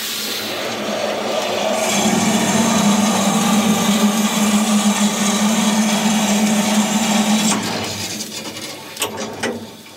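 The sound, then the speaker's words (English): A steady hissing roar of steam with a low humming drone rises and holds for several seconds, then cuts off, leaving a few sharp clanks and metallic clicks at the end. It comes from a steam locomotive on the Puffinbilly railway as the injector is turned on to feed water and the main steam valve is worked. “I've turned the injector on here, so I've turned the water on here, and this is the main steam valve.”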